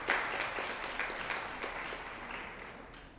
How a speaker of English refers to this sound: And I also would like to let you know that today my wife and I are married 34 years. Wonderful. That's wonderful. Round of applause. Yes, indeed.